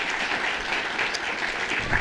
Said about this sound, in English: Clap again for that beautiful passage